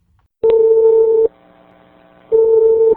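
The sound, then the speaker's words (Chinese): A telephone ringback tone heard down the line on a recorded investigative call to Zhongshan Hospital in Shanghai: two steady electronic beeps, each under a second long, separated by a short gap with a faint hum, clear and fairly loud, no voices. “我们再来听另外一段对上海中山医院的调查电话录音。”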